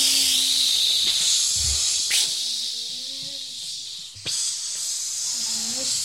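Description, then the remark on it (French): A dual-program steam iron with adjustable thermostat hisses steadily and loudly the whole time, with two sharper puffs of steam bursting out partway through, over faint murmuring voice-like tones underneath. “Fer à vapeur, double programme, avec thermostat réglable, si vous voulez tout savoir.”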